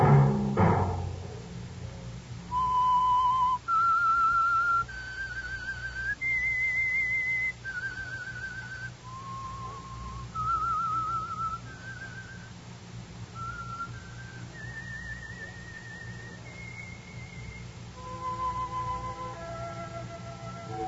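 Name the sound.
whistled theme tune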